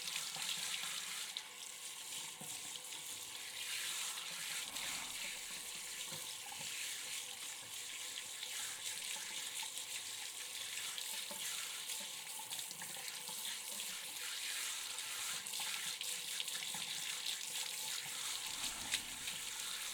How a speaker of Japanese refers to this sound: 一応気を使ってお耳などデリケートな場所を洗い流すときは水圧を弱めにしています。なのでもう少々我慢してくださいね。